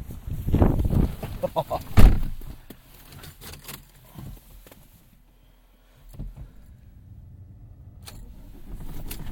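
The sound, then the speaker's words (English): A car engine cranks with the key, let go a bit early, in a couple of loud, rough bursts, settles into a low rumble that fades to near silence, then a soft low hum returns, on a windy, cold, starry night. “Ooh, let go of the key a bit quick, a bit early.”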